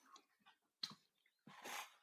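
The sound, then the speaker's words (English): Loud chewing of crunchy candy: two sharp bursts of crackling crunches separated by quieter mouth sounds, with no talking. “Oh, there's a crunch. Listen to that crunch.”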